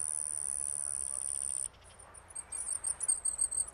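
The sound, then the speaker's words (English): Bee hummingbird calls, from the world's smallest bird (about 2.25 inches long, under 2 grams), hovering at flowers along a forest edge hung with vines and bromeliads: a thin, very high-pitched buzzing trill held for over a second, then a quick run of squeaky, twittering chirps, fairly clear with no talking. “There, hovering at the flowers, if you squint hard enough, you'll find the bee hummingbird.”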